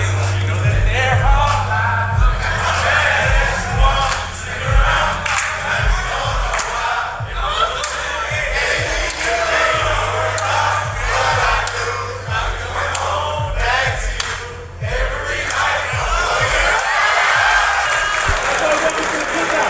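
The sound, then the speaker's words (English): A crowd of football teammates cheers and hollers loudly and without pause for about twenty seconds as a rookie sings an early-2000s R&B slow jam, with bursts of clapping and shouted whoops over a steady low hum. “I mean, that is getting the crowd going.”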